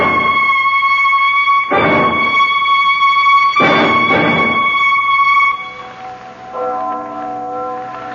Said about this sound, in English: That bell. I don't know if I ever want to hear a bell in my life again. That's only the church bell. We didn't ever hear the other one.